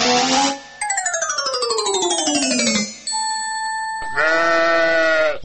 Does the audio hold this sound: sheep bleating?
yes